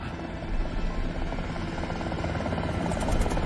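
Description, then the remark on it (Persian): A steady, loud helicopter rotor drone fills the whole stretch, a dense low thrum with rapid chopping pulses, continuous with no voices over it. “اینا از هلیکوپتر”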